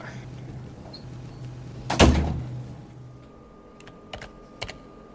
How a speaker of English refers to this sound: Just close this door.